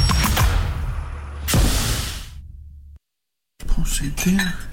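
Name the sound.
dishes clinking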